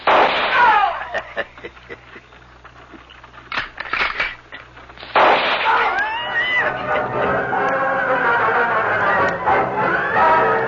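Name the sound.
gunfire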